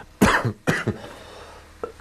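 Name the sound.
cough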